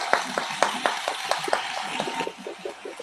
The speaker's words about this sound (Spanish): Un aplauso por este directo maravilloso. Me ha encantado.